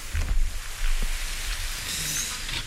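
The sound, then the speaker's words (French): Steady evening rain falls in humid weather, a continuous soft hiss with scattered patters and a low rumble underneath, heard alone with no voices. “Il fait beau, il pleut.”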